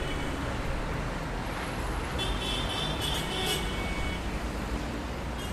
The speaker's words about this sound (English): You're crossing one of them now, shuffling across the street with an impossible number of pedestrians as an impossible number of cars waits.